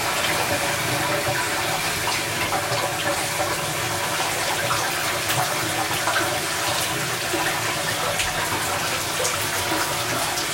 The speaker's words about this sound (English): What the fuck? This like shower is not going cold. I don't understand. It's like getting hotter.